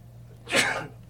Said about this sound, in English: Gesundheit.